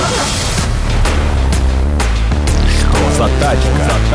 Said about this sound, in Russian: а у меня пошел какой-то краш-тест зачем-то